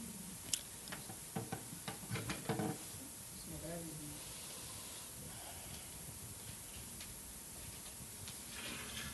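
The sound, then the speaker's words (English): A chair is pulled out for a woman: a few soft knocks and clatters, then a brief squeaky scrape, all fairly faint over a steady background hiss. “I'm going to pull this chair for her.”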